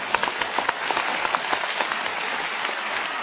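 A steady wash of audience applause for Yu Qian, dense overlapping claps with a few sharper hand hits standing out, sustained evenly at moderate loudness with no voices.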